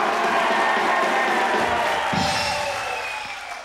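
A large audience applauds and cheers loudly, a dense, continuous wash of clapping and shouts that stays steady before easing off slightly at the end.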